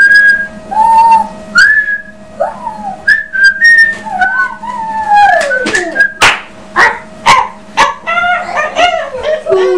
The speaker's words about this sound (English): Can you whistle